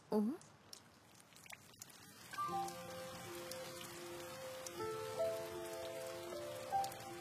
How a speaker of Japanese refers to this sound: 雨。 困ったね。皆さんステージは？ 全部中断してる。 天気予報は晴れだったのに。